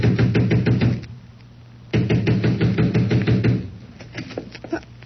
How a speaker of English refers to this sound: I ran to the front door and began pounding.